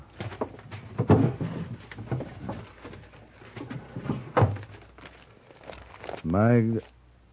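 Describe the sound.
Papers rustle and shuffle as the top drawer of a desk is rummaged through for the papers on a prisoner, with a couple of sharper knocks of wood, and a brief voice near the end.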